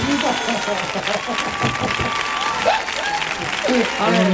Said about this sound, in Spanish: Bienvenido a tu casa, amigo. Fuerte el aplauso para el tallerito.